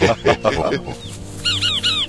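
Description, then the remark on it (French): A frog croaks in a quick series of raspy, throaty pulses, fairly loud, at the edge of a dark forest, followed by a few short high chirps from a bird. “C'est quoi ce bruit? Une grenouille.”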